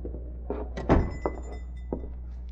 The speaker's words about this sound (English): He opened the shop door and nonchalantly entered.